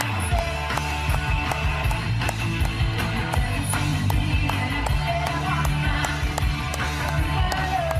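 Sharp hand claps land irregularly across a continuous, busy background of low droning tones and crowd-like noise, the claps sounding as crisp, scattered smacks rather than a steady beat.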